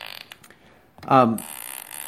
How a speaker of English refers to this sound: or if I'm just really amusing my children, I can play these fart noises, and it's just great stuff.